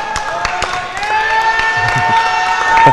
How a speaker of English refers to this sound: Not sure what's going on over there, but everyone is clapping of what's happening.